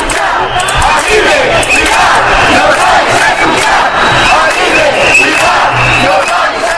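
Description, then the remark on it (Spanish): A large crowd of protesters chants slogans such as 'Esto es un atraco, manos arriba' and calls for more teachers, aimed at the regional president and the education councillor; a loud, dense wall of voices with rhythmic shouted cadence and occasional low thumps, sustained throughout without pause. “Estos gritos tenían recomendación y van directamente dirigidos a la presidenta de la comunidad y también pues a la consejera de Educación y Empleo.”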